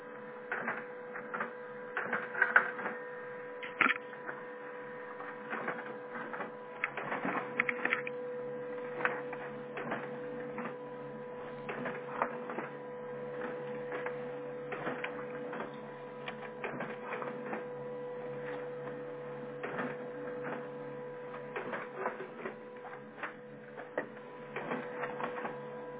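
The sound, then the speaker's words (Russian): A printer prints a 16-page job without copies, running steadily with a constant mechanical hum broken by rapid clicks and clatters as pages feed through, with no one speaking. “Нет, я просто ограничил, чтобы он, если что, не пошел дальше печатать.”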